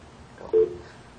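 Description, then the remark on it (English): A short, loud electronic tone from a fax machine answering a call chirps once over a muffled phone line, with faint line hiss around it and no talking. “Oh, it's a fax number.”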